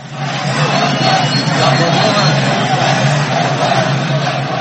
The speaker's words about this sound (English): Protesters in Baghdad chanted slogans against Iran's Shiite proxy militias in Iraq as the demonstrators set fire to pictures of Iran's supreme leader, Ayatollah Ali Khamenei, and his top regional commander, General Qasem Soleimani.